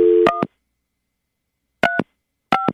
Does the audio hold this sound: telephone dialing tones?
yes